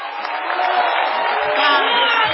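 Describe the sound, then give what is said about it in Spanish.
A crowd roars in a loud, steady ovation, cheering and shouting together without a break for the whole stretch. Voices blend into a dense wash of noise. “Igualmente desorbitada será la ovación que habrá de dedicársele al artista antes llamado Gillespie.”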